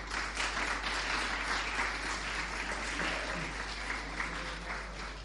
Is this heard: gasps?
no